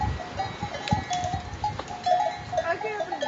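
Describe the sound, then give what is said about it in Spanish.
Bells on a herd of mountain goats clank and jangle irregularly, several ringing over one another against a low outdoor rumble. “Las cabras del monte.”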